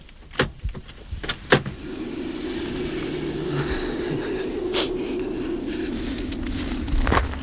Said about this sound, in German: Ein Parkplatz zog sich länglich zu einem Aussichtspunkt hin. Hier parkte Peter den Wagen.